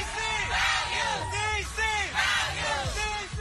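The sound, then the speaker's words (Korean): A large crowd at a gay pride parade in a major US city such as New York or Los Angeles chants slogans in unison, demanding respect for their gender identity: loud rhythmic shouted phrases repeating every half second or so, with many voices blending together. “남장을 한 여성이나 여장을 한 남성 등이 행렬하고 자신들의 성 정체성을 존중해주기를 요구하는 구호를 외치기도 하죠.”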